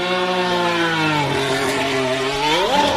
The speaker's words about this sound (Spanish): Este es el sonido del motor del nuevo coche de Fernando Alonso.